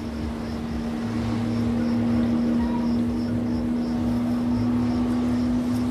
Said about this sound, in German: Also, wir sehen gerade wieder so ein Touristenboot. Das hier quer durch das Schwarze Meer rasant fährt und ja, so Wellen reitet sozusagen und sich mal scharf in die Kurve legt und da auf dem Boot sind dann quietschende Touristen.